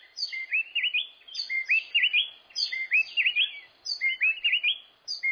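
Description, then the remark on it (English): A mated pair of wrens sing a rapid, tightly interlocked antiphonal duet, each singing a different phrase, their bright whistled phrases alternating so seamlessly they merge into one continuous song, repeating in four tight, clear bursts with no voices. “The two wrens are singing a duet. Each sings a different phrase, but the phrases are so closely linked, we hear it as one song.”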